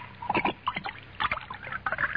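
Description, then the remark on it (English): Wine splashes and trickles into a glass in short bursts, a gurgling pour that stops and starts a few times without any voices. “But before I do, pour me another glass of wine.”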